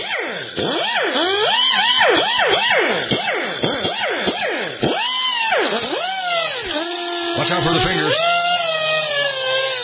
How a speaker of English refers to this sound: There we go. I got a chunk off my granola bar. I don't know why these granola bars are so hard. Got to have a die grinder to cut them.